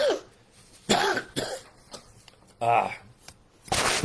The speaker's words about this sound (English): Excuse me. Got to have a cough break.